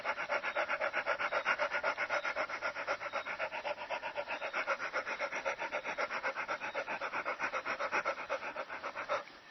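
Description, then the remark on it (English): A person imitates a dog panting as a breathing exercise, with rapid, shallow, breathy huffs in a steady fast rhythm, fairly loud, continuing without pause for about nine seconds with no talking. “Like a dog panting.”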